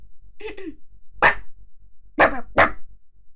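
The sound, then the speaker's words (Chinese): A person imitates a dog, letting out a whiny yip followed by three sharp barks, two of them close together, loud against a low rhythmic thump in the background. “最重要的是，我学狗叫也很像，我学个给你看。”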